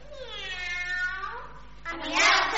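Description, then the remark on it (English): A little girl imitates a cat's meow, one long drawn-out, wavering cry followed by a shorter, harsher and breathier second meow. “She had one talent which made her proud. She could meow like a cat, and now she meowed.”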